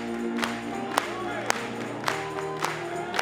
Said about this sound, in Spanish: Gloria a Dios. Vamos a aplaudirle.